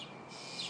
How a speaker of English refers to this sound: Most of the sounds, in fact, virtually all the sounds you're hearing now, are coming from these starlings.